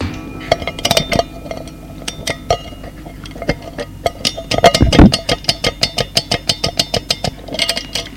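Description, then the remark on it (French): Someone winds up an alarm clock that sits on a 1950s bedside table: a run of sharp metallic ratcheting clicks, irregular at first, then settling into a quick, steady clicking rhythm, with a low hum underneath. “Remonte le réveil.”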